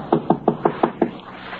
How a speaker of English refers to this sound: A short, heavy-set man furtively approaches a home in which all the lights are out. He goes up the front steps quietly. He knocks on the door.